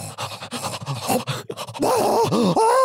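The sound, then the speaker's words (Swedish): Loud, rapid gasping breaths in choppy bursts from someone starting to breathe again after holding their breath, sliding into drawn-out, strained groaning exhales toward the end. “Ja, och då när jag väl hållit andan och måste börja andas igen, då andas jag ju naturligt ännu högre eftersom jag har varit nära på att dö.”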